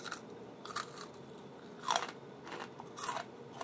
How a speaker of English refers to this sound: The fries feel hot. I'm gonna try a fry.